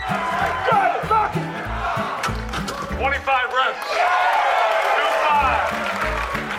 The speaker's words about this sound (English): And a punter who bench pressed 225 pounds in front of a raucous crowd.